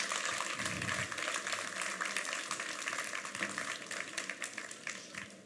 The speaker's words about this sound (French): Je vous invite à me rejoindre, s'il vous plaît. On peut les applaudir. Merci.